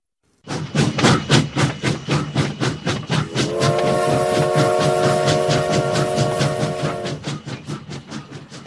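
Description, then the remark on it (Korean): A steam train travelling through the night toward Shanghai chugs along in rapid, rhythmic puffs, and midway a long multi-tone whistle sounds for several seconds over the steady chugging before cutting off as the puffing continues. “열차는 20살 겁없는 여인을 싣고 상해로 밤을 패며 달리고 또 달렸다.”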